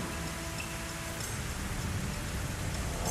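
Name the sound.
heavy rain and wind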